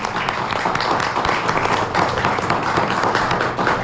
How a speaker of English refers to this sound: So let's give everybody who's here a round of applause.